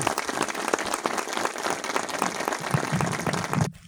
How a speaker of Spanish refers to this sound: Pido un gran aplauso en honor a él.